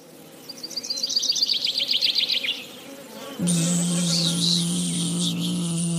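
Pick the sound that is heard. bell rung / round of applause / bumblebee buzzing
bumblebee buzzing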